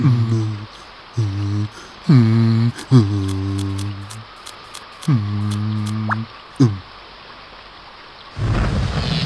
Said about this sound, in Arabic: أيها الصغيران، يستحسن بنا الخروج من هنا والتوجه نحو الملجأ قبل أن تمطر. لقد بدأ المطر ينهمر، هيا بسرعة. هيا.